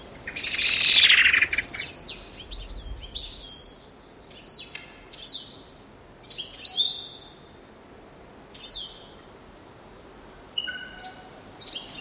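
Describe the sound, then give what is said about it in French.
Birds chirp outdoors in a quiet setting, with a loud burst of song early on followed by scattered high, bright calls repeating at irregular intervals over soft ambient background noise. “J'enregistre les oiseaux, le vent, l'absence d'humains.”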